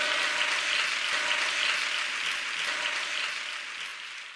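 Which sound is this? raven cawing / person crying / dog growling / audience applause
audience applause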